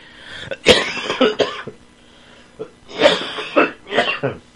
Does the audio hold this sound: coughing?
yes